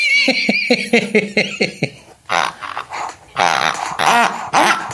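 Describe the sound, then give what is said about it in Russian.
Pigs grunt in a quick run of short, pitched snorts, then break into louder, harsher squealing grunts in several bursts, with no people talking. “Как-то не так хрюкают. Это наркоманы, они дохлые, понятное дело. Наркоманские свиньи.”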